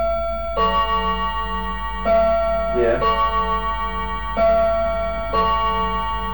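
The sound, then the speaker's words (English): A clock strikes several resonant, ringing chimes at a slow, steady pace, each tone lingering into the next, with a brief voice murmuring partway through. “Maybe, I'll tell you, that clock's about 10 minutes fast.”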